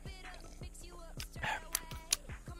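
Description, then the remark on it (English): A person takes quiet sips of milk from a cup during a milk taste test, with soft slurping, wet lip smacks and a couple of sharp mouth clicks, without talking. “Let me sip first.”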